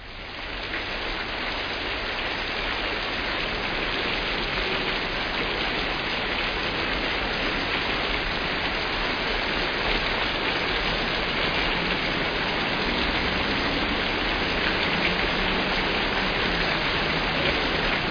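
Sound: rain falling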